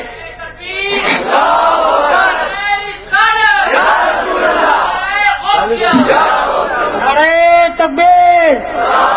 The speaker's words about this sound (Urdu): ذرا زور سے نعرہ لگائیں مل کے، میں نعرے تکبیر، نعرے رسالت.